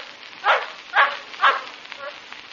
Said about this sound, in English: What is it, sir? All I heard was the yap of a native dog.